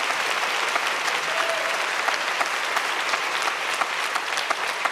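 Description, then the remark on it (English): A crowd claps steadily and continuously, a dense wash of many hands filling the whole stretch at a fairly loud, even level with no voices rising above it. “So now you can clap.”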